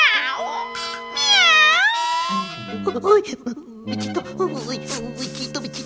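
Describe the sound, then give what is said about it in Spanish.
An old cat by a door gives a long, wavering meow that rises and falls, followed by a jumble of excited, voice-like yowls and chatter, loud and lively throughout. “El viejo gato junto a la puerta meneaba la cola listo para atacar.”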